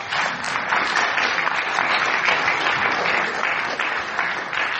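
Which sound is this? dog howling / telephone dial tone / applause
applause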